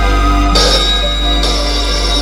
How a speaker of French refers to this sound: Le téléphone sonne.